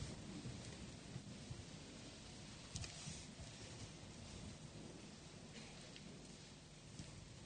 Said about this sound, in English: rather than the rain that is falling on the roof.